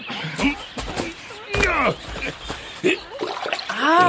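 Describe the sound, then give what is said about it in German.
Two people sitting on a riverbank splash and paddle their feet in cool, shallow water, a series of irregular wet slaps and sloshes, with voices making pitched vocal sounds over the splashing. “Setzen wir uns ans Ufer und planschen ein bisschen mit den Füßen im Wasser.”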